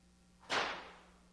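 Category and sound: sound effect, whip crack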